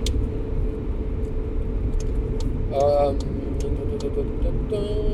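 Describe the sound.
A car engine runs steadily, a continuous low, loud rumble filling the whole stretch, with a voice briefly audible over it.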